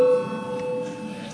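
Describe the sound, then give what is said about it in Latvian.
A parliament's voting bell, rung before a vote on a bill: a steady electronic bell tone rings continuously, a bright mid-pitched ring with layered overtones that holds at even loudness for over a second, with faint murmuring underneath. “Lūdzu zvanu.”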